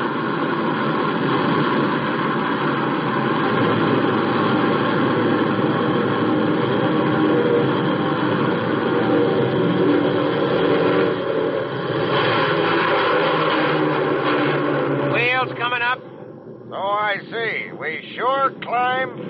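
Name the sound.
jet aircraft engine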